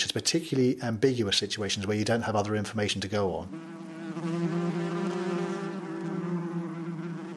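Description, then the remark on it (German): A voice speaks briefly, then a bee buzzes steadily for several seconds, a continuous droning hum that holds its pitch and loudness until the end. “Klingt dieses Summen jetzt eher bedrohlich aggressiv oder satt zufrieden?”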